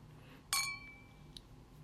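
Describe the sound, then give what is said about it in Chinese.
Glasses clink together once in a toast to a son's birthday, with beer being drunk; a bright ring that lingers and fades over half a second, followed by a faint second tap against a quiet hum. “好，干杯！祝儿子生日快乐，天天开心哦。”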